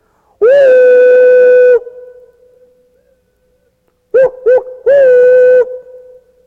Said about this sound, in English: And every once in a while, we hear that old train whistle out there.